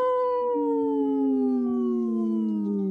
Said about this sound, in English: Howl!